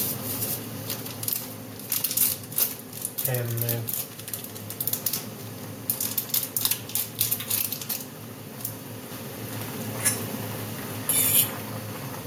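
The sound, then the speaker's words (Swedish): Scissors snipping open a package, a series of crisp, quick clicks and cuts in irregular bursts, with faint crinkling between snips against a low hum. “Och så ska jag klippa upp. Det är lättast med en sax.”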